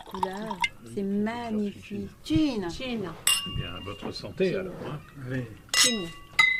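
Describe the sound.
Two bright glass clinks ring out over steady conversation, each leaving a high, lingering chime, with faint clatter of tableware in between as white wine is served on an evening in Felicetu, Corsica.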